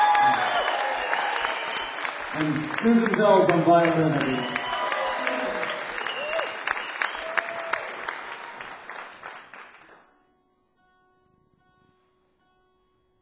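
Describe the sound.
Loud audience applause at a live concert for a musician being introduced, dense clapping with a few cheers, while a man speaks over it; the applause fades out abruptly after about ten seconds, leaving near silence.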